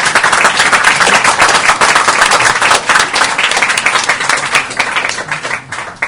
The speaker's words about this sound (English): Let's give a clap to her.